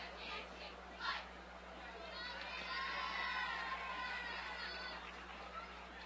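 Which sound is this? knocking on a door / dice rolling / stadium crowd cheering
stadium crowd cheering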